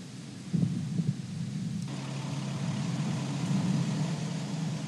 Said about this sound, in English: And with that, we see the fires lit, the engines start to roar, and lift off. Scott Tingle, Anton Shkaplerov, and Noroshihi Kinai on their way to the International Space Station.